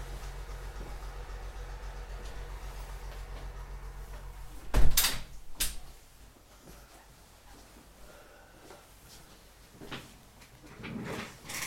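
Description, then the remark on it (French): Doors are being closed beside a farm: a door shuts with a sharp thud, followed moments later by a second softer knock, over a low rumbling background hum; later come faint shuffling and handling noises, with no talking. “Je vais fermer les portes à cause des tracteurs qui passent tous à ma côté d'une ferme, c'est parfois très bruyant.”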